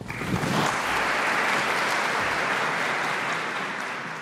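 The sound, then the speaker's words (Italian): Sustained applause from a large crowd, a dense steady wash of many hands clapping at once, loud and even throughout with no voices standing out. The applause closes a traditional meeting between the Pope and the Roman clergy at the start of Lent. “E con questo applauso si è concluso giovedì scorso l'incontro tra il Papa e il clero romano, un incontro tradizionale all'inizio del periodo liturgico della Quaresima.”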